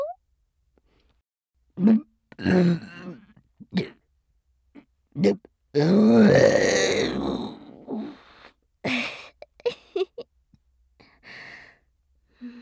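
A long, drawn-out burp rumbles for about two seconds, preceded by a few short throaty gulps and breaths and followed by quieter breathy sounds.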